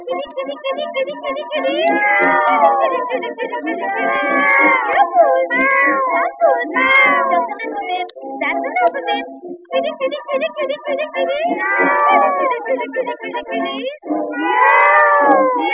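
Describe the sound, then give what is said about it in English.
A voice imitates cats meowing and caterwauling at night, drawn-out wavering yowls with sliding pitch, repeated continuously and loudly, with brief gaps between cries. “For you can hear her calling cats at any time of night.”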